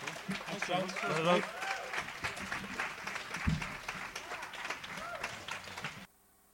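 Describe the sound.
A crowd applauds steadily, dense clapping filling the air for about six seconds with a few voices and cheers mixed in, then the sound cuts off abruptly.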